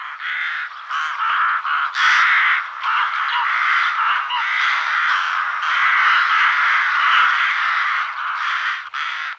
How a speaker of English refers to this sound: Rooks make a mellow caw, often in large parties.